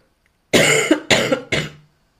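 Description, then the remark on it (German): Three loud coughs in quick succession, each a sharp burst that trails off, with short gaps between them and no talking. “Auch mit Husten oder sonstigem.”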